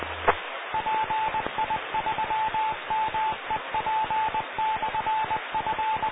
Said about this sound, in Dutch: Dat was de call 5 van de repeater.